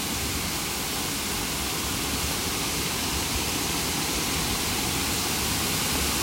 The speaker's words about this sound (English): As lovely as this spot is, I'm starting to lose my voice trying to talk over the crashing sound of the water.